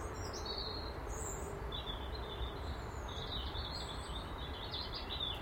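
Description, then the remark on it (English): Birds chirp and trill continuously outdoors in the morning, several overlapping calls over a steady hiss of ambient background noise, with no one speaking. “Lovely bird song this morning.”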